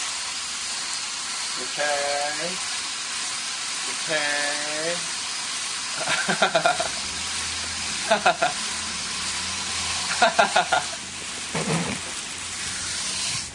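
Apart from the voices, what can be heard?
garden hose spraying water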